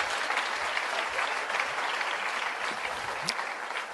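An audience claps steadily, a dense wash of many hands with no individual claps standing out, holding an even loudness for the whole stretch with no talking over it.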